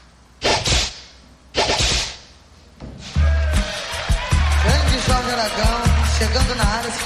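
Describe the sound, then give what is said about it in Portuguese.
Two sharp, loud whip-crack sound effects snap about a second apart, each with a brief ringing tail, for the 'Chicote da Verdade' segment at 9:30 on the radio programme Espaço do Povo on Difusora. A burst of upbeat music with heavy bass follows and plays on to the end. “E assim foi o nosso Chicote da Verdade às 9h30, chamando o bloco de comerciais.”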